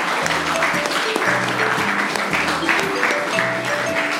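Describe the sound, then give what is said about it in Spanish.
Steady, dense applause from an audience, a continuous wash of many hands clapping at a fairly loud level throughout, with faint murmuring voices mixed underneath. “Primero que nada, vamos a darle un aplauso a algo que está sirviendo para acallar voces.”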